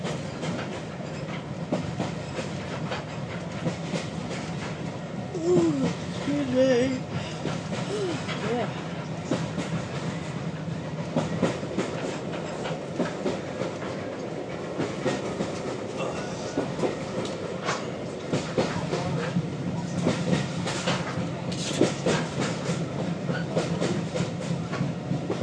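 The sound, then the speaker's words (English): A train rolls steadily along, its wheels clattering in a repeating clickety-clack rhythm over a constant low rumble, with occasional brief squeals and murmured voices in the background. “I do find this sound soothing when it goes k-ch, k-ch, k-ch, k-ch.”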